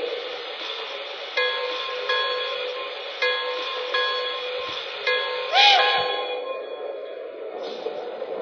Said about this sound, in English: Now arriving from Chicago on track 1, train number 2, the Pennsylvania Limited.